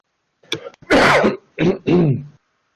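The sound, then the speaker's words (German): A harsh, phlegmy smoker's cough breaks out in a quick fit of four rough hacks, loud and raspy, then stops into silence. “Guten Husten.”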